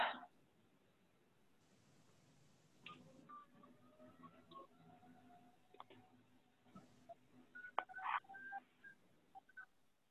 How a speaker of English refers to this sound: Let me try to call him from my house phone.